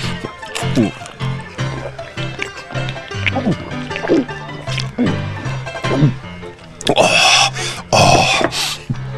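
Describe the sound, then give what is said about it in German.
Water is poured into a glass for a guest, a gurgling stream whose pitch rises in repeated glides as it fills, ending with a louder, splashy burst of sloshing. “Oh, dann nehme ich ein Wasser.”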